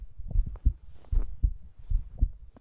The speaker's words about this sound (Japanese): この鳴り止まない鼓動が心地いい。